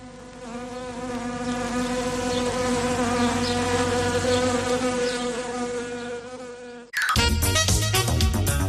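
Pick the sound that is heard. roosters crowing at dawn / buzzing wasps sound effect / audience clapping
buzzing wasps sound effect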